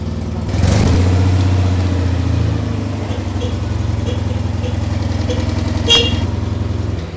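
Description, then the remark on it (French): A 1958 car's engine idles and runs steadily at a garage in Arcueil, a low rumbling throb with a brief sharper blip near the end. “Là, après, il y a les années 70-80, c'est plus du tout le même son, parce que c'est pas le même moteur.”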